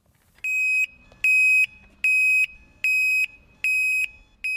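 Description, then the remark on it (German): An e-bike alarm system blares loudly and piercingly in a steady on-off pattern: six shrill high-pitched beeps of about half a second each with short gaps, and no voices. “Sie sind alle mit einer Alarmanlage ausgerüstet und die macht sich bemerkbar, wenn ihnen jemand zu nahe kommt.”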